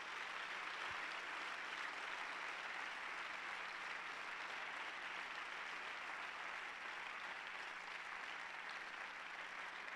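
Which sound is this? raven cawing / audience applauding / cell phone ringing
audience applauding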